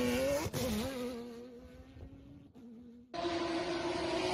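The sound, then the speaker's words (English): A powerful V12 car engine runs loud, its pitch rising and falling with revs, briefly easing off before surging back to a strong, steady roar. “Look, I like this V12 much more than you know who V12, that BMW.”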